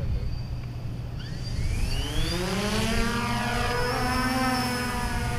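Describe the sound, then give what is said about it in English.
A flying drone of the Pella High School Agriculture and Industrial Tech departments whizzes past after classes, with a rising, whining buzz of rotors that sweeps in pitch as it approaches and passes by, over a steady low rumble. “The sounds of flying drones will whiz by and through the air.”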